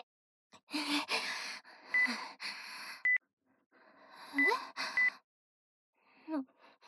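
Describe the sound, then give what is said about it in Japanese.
Four short, quiet smartphone button beeps tap out at irregular intervals as someone calmly uses a smartphone, mixed in with loud, shaky gasps and heavy breathing. “なんで平然とスマホいじってるのよ。”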